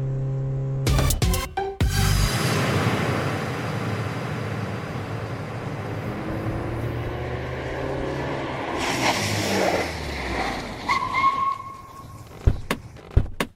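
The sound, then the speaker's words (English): A car engine rumbles steadily, then its pitch drops as the car slows and pulls over to a stop at a bus stop, followed by a couple of sharp mechanical clunks. “Pull over here at this bus stop and let me ask if anyone saw her.”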